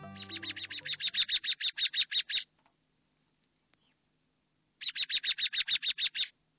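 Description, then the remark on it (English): American robin calls ring out in two rapid bursts of sharp, repeated chirps, loud, separated by a brief pause of near silence. “These days bring flocks of American robins to feed on fruiting trees and berries.”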